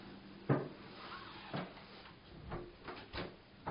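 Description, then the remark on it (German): A door is pushed shut with a handful of dull wooden knocks and clunks spread over a few seconds, with no talking. “Und wenn ich hier die Tür schließe,”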